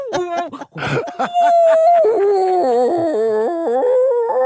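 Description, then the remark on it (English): A voice imitates whale calls with long, sliding moans and wavering hoots, loud, rising and falling in pitch for several seconds after a few short breathy sounds. “And she dials and starts making whale sounds, you know, like, ooh, ooh, talking to the whales.”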